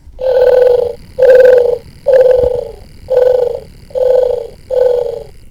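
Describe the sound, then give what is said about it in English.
A prototype gadget in its purring mode emits an electronic purring sound: six loud, evenly spaced buzzing pulses, each about half a second long, with no one talking. “And let me switch it over to its purring mode, which hopefully will get picked up.”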